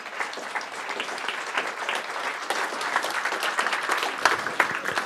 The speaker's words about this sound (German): Danke euch vielen. Applaus für euch nochmal.